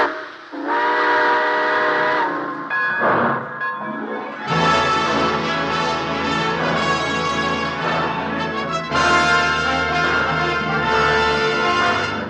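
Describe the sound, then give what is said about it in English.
A steam train whistle sounds in long, loud, multi-toned blasts as the train pulls out, briefly pausing, then sustaining a dense, shrill chord over a low rumbling background. “All aboard. Well, dear friends, it looks as though we're ready to pull out.”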